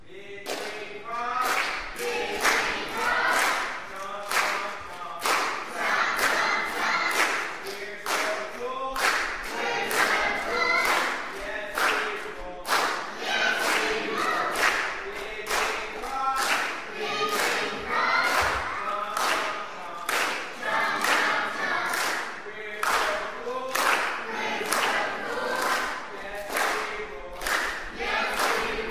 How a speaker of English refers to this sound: why don't we let them start with their first cheer?